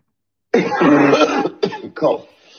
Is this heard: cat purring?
no